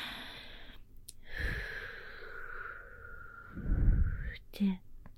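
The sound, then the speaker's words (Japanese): A long, close breath of air is blown out in a steady, airy hiss lasting a few seconds, with a soft breathy catch at the end and no talking. It is blown onto the listener's penis in an erotic roleplay. “ふーって。”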